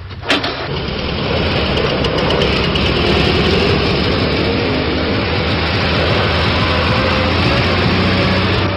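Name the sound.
vintage car engine idling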